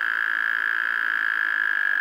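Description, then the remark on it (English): A steady, buzzing trill of breeding Wyoming toads drones on without pause, loud, with a rapid pulsing texture and no voices. “After today, Lindsay looks forward to hearing the sound of Wyoming toads breeding on his land.”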